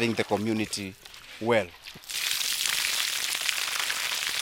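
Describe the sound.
Voices talk briefly, then a steady, fairly loud rush of water pours into a container, continuing unbroken as a bright, splashy stream.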